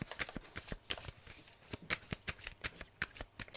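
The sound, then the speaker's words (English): Tarot cards being shuffled: a rapid run of crisp, papery slaps and riffles in an uneven rhythm, fairly loud, with no voices over it. “Aquarius, your card, the card for you, Aquarius, I might do an extra big shuffle here for this one, is the card of Chariot”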